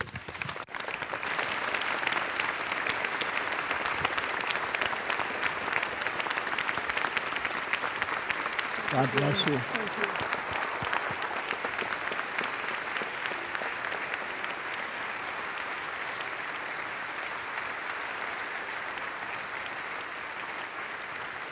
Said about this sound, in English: And we now, as a congregation, give our blessing to her path and promise her our encouragement. In Jesus' name, amen. Let's applaud